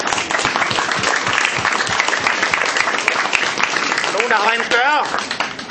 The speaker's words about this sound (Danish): Ja. 348 gram, han skal have en ordentlig klapsalve.